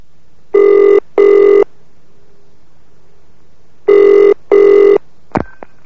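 A telephone at Santos Trading rings with an incoming call from Singapore, in the classic double-burst pattern: two pairs of rings separated by a pause, followed by a click as the handset is picked up. Clear, with no talking.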